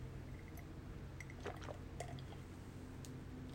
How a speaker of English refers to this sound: Wait, I have to take a sip of coffee. I'll be right back.